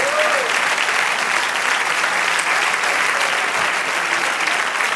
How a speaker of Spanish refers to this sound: Otro aplauso al Señor.